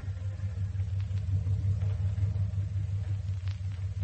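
A lawyer's car engine idles at the front door of the Lancaster estate in a suburb as Mrs. Lancaster gets out, a steady, low rumbling hum holding an even level for the whole stretch with no revving and no voices.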